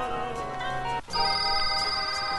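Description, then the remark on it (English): A phone rings with a steady, tonal electronic ringtone, loud, broken by a brief pause before the ringing resumes with a brighter high note. No one speaks. “get G Maddox on the phone.”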